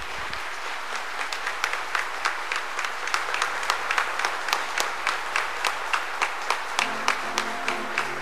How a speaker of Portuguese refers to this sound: vamos saudá-los com uma grande salva de palmas.